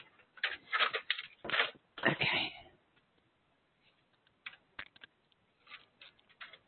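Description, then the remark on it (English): Rustling and clattering of paper being handled and pushed into a printer tray while the printer paper is changed, a dense burst of noise at first, then a few lighter clicks and shuffles after a pause. “Sorry, I'm changing my printer paper so I can see your supplement list.”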